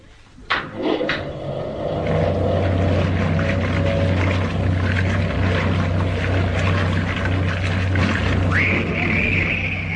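A clunk as a machine switches on, then a steady motor hum with rushing, gurgling water draining from a tank through a small grid at its bottom, loud, running to the end with no voices.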